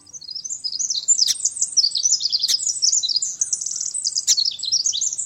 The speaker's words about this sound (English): all those little brown birds look the same. Like the ones we're hearing, they might be sparrows or wrens or something altogether different